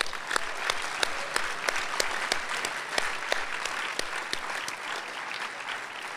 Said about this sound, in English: They've been doing it for 19 years. That's a monthly series for 19 years. And I think that alone deserves some applause.